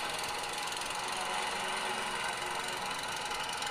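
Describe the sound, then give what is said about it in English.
A lawnmower engine drones steadily at a constant pitch, a dense buzzing hum with a faint rattle, holding at even loudness throughout with no voices. “Lawnmower, please? Yeah!”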